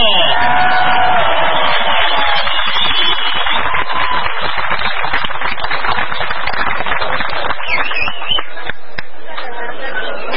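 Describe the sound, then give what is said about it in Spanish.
A crowd at an immigration reform rally claps and cheers loudly to welcome the next speaker, a dense wash of overlapping hand claps with shouts and whistles on top, sustained steadily for about ten seconds with no pause. “Que se escuche, a ver, que se escuche fuerte ese aplauso.”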